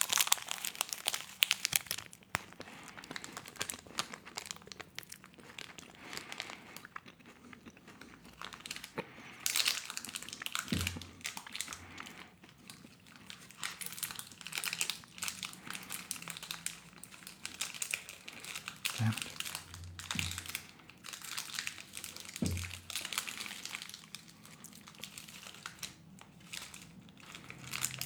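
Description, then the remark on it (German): Continuous crinkling and crackling of a chocolate bar's plastic wrapper as the bar is eaten, bright and steady for nearly half a minute, with a few sharper crunches and rustles standing out along the way. “Jetzt muss ich ein bisschen näher ans Knisterpapier ran, sonst saue ich mir hier alles ein.”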